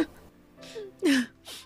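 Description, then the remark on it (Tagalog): A mother whimpers and sobs in a bedroom at home in short, breathy bursts, her voice wavering and dropping in pitch between shaky inhales, with no talking. “Ma, ano nangyari sa inyo? Umiiyak ka ba?”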